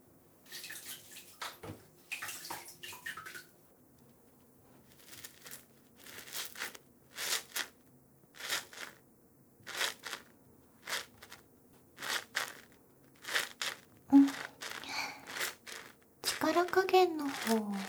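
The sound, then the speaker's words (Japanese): Soft, wet soap lathering and gentle scrubbing strokes on a person's back repeat in short, regular bursts, with quiet breathy moments between them and a louder frothy rustle near the end. “それじゃ、泡立てて、優しくゴシゴシしていきますね。”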